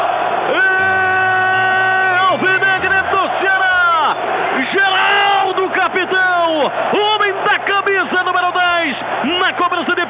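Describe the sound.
A Ceará football crowd at the Castelão erupts in loud, sustained cheering after a 12th-minute penalty goal, with many voices yelling and whooping in rising and falling swells that never let up across the whole stretch.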